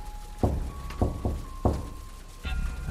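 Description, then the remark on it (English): Four dull, low knocks on a lab door from outside in an uneven rhythm, then a fifth thud near the end, over a faint steady tonal hum. “My thoughts were interrupted when we heard a knocking coming from outside the lab door.”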